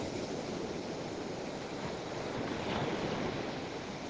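Steady ocean surf washes continuously, a broad, even roar of breaking waves with a slight swell near the end, heard alone without any voices.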